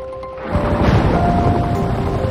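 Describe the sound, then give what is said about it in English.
Heavy pouring rain rushes in as a dense, steady hiss over a deep rumble like thunder, with faint sustained tones humming underneath; no voices. A helicopter hovers over an illuminated landing pad in the rain. “Rain pours as Charlie hovers over the illuminated pad.”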